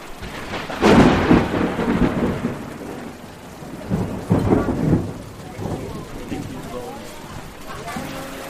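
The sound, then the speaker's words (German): Heavy rain pours down steadily with water rushing like a river along the street and dripping from a restaurant awning, broken by two loud thunder rumbles near the start and middle, while muffled voices murmur faintly in the background. “Nach kurzer Zeit fließt ein Fluss unter mir die Straße entlang und meine Schuhe sind komplett nass.”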